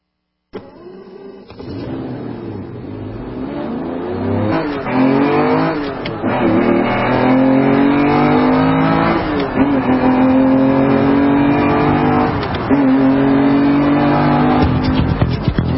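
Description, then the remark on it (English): The Auto World car's engine starts and revs loudly, its pitch climbing repeatedly as if accelerating through several gear changes, steady for the whole stretch with no one speaking. “Welcome aboard the Auto World car.”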